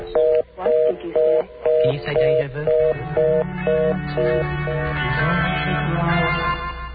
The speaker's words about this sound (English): Please hang up your phone. The number you have called will ring. Lift your receiver after 15 seconds and commence talking.